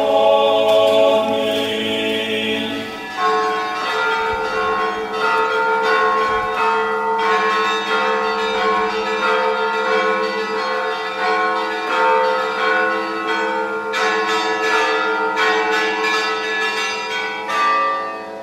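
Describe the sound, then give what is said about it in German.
The bells of the Trinity Church (Dreifaltigkeitskirche) peal continuously at about 3 a.m. after a night church service, several bells overlapping in a rich, ringing clangor with long resonant tails, loud, with no voices. “das Glockengeläut der Dreifaltigkeitskirche begleitet Svetlana und mich nach Hause”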